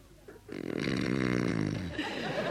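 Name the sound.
man snoring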